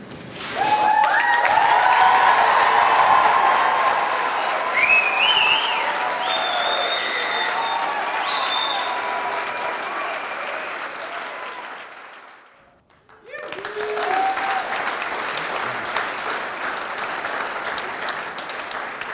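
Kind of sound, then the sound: crowd, audience applauding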